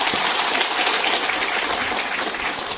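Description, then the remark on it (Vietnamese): A crowd claps steadily as a greeting to attendees at a gathering, the dense patter of many hands holding an even, fairly loud level for a few seconds with no voices over it. “Và thay cho lời chào thân ái trang trọng nhất, chúng tôi xin một tràng vỗ tay nữa ạ.”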